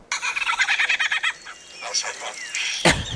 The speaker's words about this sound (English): Oh, these are the ones that imitate stuff. Oh, gotcha. Oh, so that one was just abused. The amazing lyrebird sings like a chainsaw. Okay, sings is kind of a... Yeah, chainsaw don't sing.